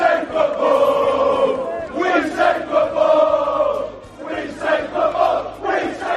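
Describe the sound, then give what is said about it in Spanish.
A large crowd of Chelsea football fans at the gates of the stadium chants loudly in unison, voices rising and falling in rhythmic waves with a steady low rumble underneath. “Miren, los aficionados del Chelsea en las puertas del estadio gritaban esto.”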